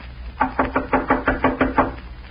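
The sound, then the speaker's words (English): A steady series of about eight firm knocks on a wooden door of a ranch house, evenly spaced, with no voices. “Seems like nobody's home. Ought to be somebody here, but I don't hear them coming to the door.”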